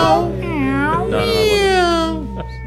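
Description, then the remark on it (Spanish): A sliding, wailing guitar tone with some delay bends up and down in pitch, mimicking a cat's meows as a sound effect near the end of a song, over a steady backing, with a short yowling phrase followed by a fading note. “Y ahora de a poco van a ir agregando efectos de sonido con instrumentos musicales. Emulando a sonidos de gatos, ya para el final.”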